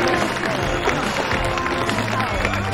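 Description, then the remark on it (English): A crowd applauds a newly lit, bright tree with dense, steady clapping that stays loud throughout, mixed with a murmur of cheering voices and chatter. “Everyone smiles and applauds at the bright, shiny tree.”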